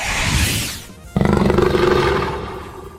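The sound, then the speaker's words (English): A loud, growling roar from a lion man creature in a video game battle against two lion men, rumbling and sustained for about two seconds after a brief rushing whoosh, with no one speaking. “Two lion men on one.”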